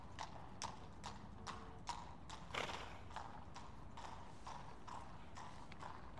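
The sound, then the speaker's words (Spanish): Horse hooves clip-clop in a steady, even rhythm, each hollow knock sharp, over a continuous low rumbling background with a brief louder scrape partway through. “¡Caballo!”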